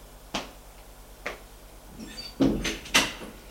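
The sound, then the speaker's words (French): Two sharp, spaced knocks on the door of a mayor's office, followed by louder clunks and rattles as the door is opened. No one speaks. “On frappe à la porte et on fait entrer.”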